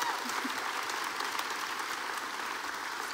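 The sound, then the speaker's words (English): A large crowd at a service applauds the grandmothers steadily, a dense wash of many hands clapping at once, sustained and evenly loud throughout with no voices standing out. “Can we give our grandmothers a huge round of applause?”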